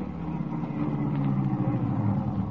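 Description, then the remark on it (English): A car engine rumbles steadily, a low droning hum with faint road noise as the vehicle slows to a stop. No one speaks. “Now, stop the car. Let me out.”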